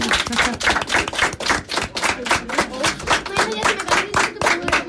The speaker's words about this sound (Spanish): Aunque le hemos dado un aplauso a la profesora, otro para ello, ¿no? Venga, claro que sí.